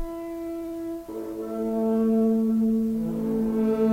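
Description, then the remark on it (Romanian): A tulnic alphorn on the hills blows a sustained, brassy alarm call to the Moți: one held tone, then a shift to a lower, louder sustained note that swells toward the end, rich in overtones. “Tulnicul de pe măguri, tulnicul de alarmă, nu dorm moții.”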